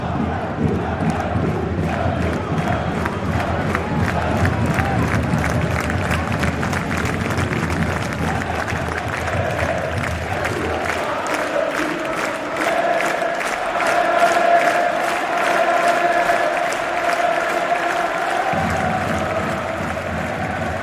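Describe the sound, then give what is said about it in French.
A huge stadium crowd of 10,000 people stands up at once and roars and cheers without pause, a dense, loud wall of voices with rapid clapping running through it for about twenty seconds. “10 000 personnes qui se lèvent d'un coup, qui hurlent”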